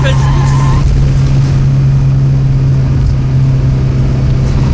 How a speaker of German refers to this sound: Ich kann nicht. Runterschalten. Du musst mit dem Motor bremsen.